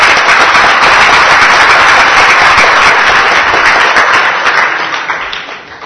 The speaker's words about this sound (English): That got bigger applause than your question.